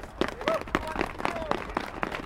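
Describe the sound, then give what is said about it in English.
A crowd of charity ride participants, all wearing gloves, claps outdoors, a steady, irregular patter of soft, muffled claps, with faint voices and calls mixed in. “Sound of many gloved hands clapping.”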